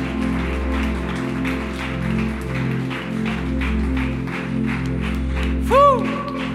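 A church audience claps steadily in rhythm over sustained, droning musical tones, applauding for Jesus. The applause is moderate rather than loud, with a brief swooping tone rising near the end.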